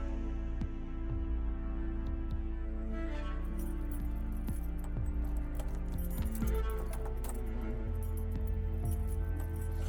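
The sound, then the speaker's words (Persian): Keys jangle and clink in scattered bursts as someone fumbles at a lock with a key that does not fit it, over a steady low hum with no voices. “کلید مال این قفل نیست.”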